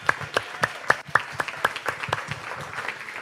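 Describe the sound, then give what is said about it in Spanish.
An audience at a church service in Chicago applauds for Jesus, sharp claps landing in a fairly regular rhythm at first and then thickening into a denser, steady patter of applause, with faint voices underneath. “Dale el aplauso más fuerte a Jesús.”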